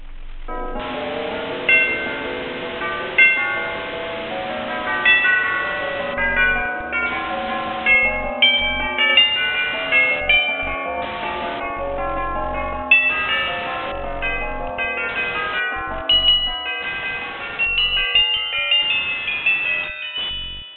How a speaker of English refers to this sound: It sounds, sounds like chimes of various frequencies. Any idea what it represents?